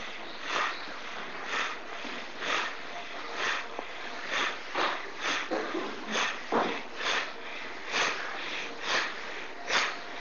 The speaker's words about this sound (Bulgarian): Сега за около една минутка свободното дишане да се превърне в бастрика дишане през носа. Сега.